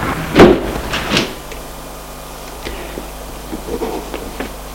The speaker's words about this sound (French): Elle entre et ferme la porte.